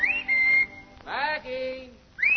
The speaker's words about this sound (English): Ain't no use whistling around here